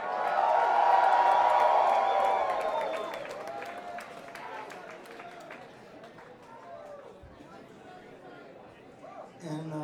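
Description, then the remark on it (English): A crowd in Athens, Georgia cheers and whoops loudly for Nucci Space, an organization the event raises money for, with high shouts and scattered clapping at first, then the noise tapers into a softer murmur of applause and chatter before a voice cuts in at the end. “So again, let's give them a big yell out for Nucci Space.”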